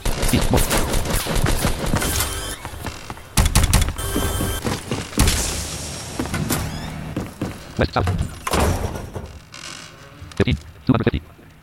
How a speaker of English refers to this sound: Oh! We both started shooting at the same time! I didn't even see you shoot.